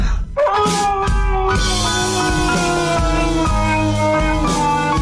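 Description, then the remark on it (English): A husky howls loudly in a phone voice-note recording, long sustained wailing tones that rise and shift pitch continuously, with no one talking. “Will you stop playing that voice note of the husky howling?”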